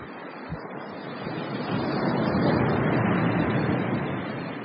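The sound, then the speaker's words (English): Ocean waves breaking in a steady, rushing surge that swells louder toward the middle, a broad wash of surf with some wind noise and no voices. “I think there's something glowing in the waves.”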